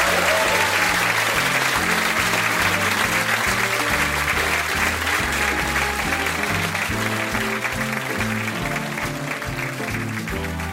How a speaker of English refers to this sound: But perhaps we would give David O'Doherty a round of applause for...